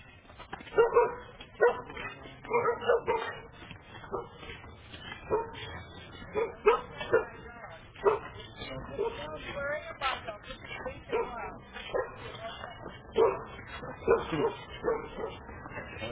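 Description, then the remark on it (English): A dog wearing a muzzle barks and yips repeatedly in sharp, uneven bursts, with a few whimpering sounds mixed in, while muffled voices murmur in the background. “He says, don't touch the dog, it's wearing a muzzle.”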